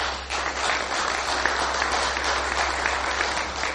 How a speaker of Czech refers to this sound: Pánové, i vám patří potlesk za přípravu tohoto semináře.